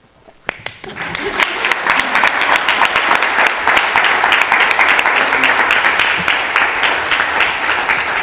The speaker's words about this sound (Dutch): Goed, en ik denk namens de raad, het applaus heeft het duidelijk gemaakt.